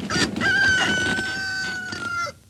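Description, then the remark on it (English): A cockerel on a neighbour's wall crows once, a loud, drawn-out cock-a-doodle-doo with a strained, wavering tone that holds for about two seconds before cutting off. “Steptoe points a gun with a plastic figure of Donald Duck at the end of the barrel at a cockerel on a neighbour's wall.”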